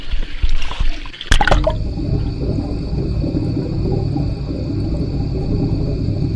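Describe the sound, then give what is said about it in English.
Sloshing water and a sharp knock give way to a muffled, steady low rumble with faint sustained high tones, heard in a bathtub with the head dunked and ears underwater. No one speaks. “So I'm in my bathtub, and one of the things I've been doing a lot lately is dunking my head, my ears underwater, and just laying there listening to what things sound like through water.”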